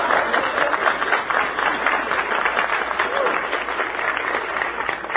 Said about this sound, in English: That loud and vociferous applause comes from the Junior Chamber of Commerce.